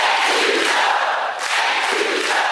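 A large audience chants "Thank you, Joe" together in chorus after Kamala Harris thanks President Biden, a loud, dense wall of voices rising and falling in a steady rhythm that fills the whole stretch without a break.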